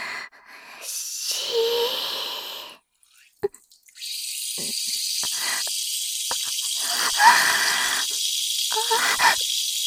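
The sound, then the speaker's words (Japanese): A steady hissing stream of urination runs for a few seconds, stops briefly with a faint drip or two, then resumes as a continuous splashing hiss until the end. “ご主人様への感謝を込めて、ご奉仕前のおしっこ、いたします。”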